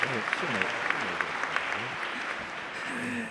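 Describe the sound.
An audience claps steadily, a dense, even patter of many hands that holds at a moderate level throughout, with a few sharper claps standing out and voices murmuring underneath.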